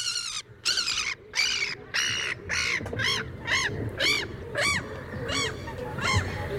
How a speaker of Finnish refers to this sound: Mikä ääni? Lokki. Yes. Lokit ovat tulleet Helsinkiin. Onko lokin ääni palannut?